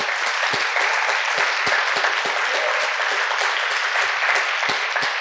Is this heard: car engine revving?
no